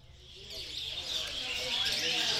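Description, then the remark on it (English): A dense, continuous chorus of many caged birds chirping and twittering at once, bright and busy, growing slightly louder, with a low murmur of indistinct voices and activity underneath, at Pramuka Market, a large wildlife market on Java. “It is the largest wildlife market in Asia, possibly in the world, and it is crammed to the gills with caged birds.”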